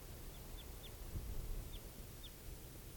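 Five short, high chip notes from a red crossbill, type 4, perched somewhere out in a clearing, come in loose pairs and singles over a steady wash of background noise. Each call is faint and clipped.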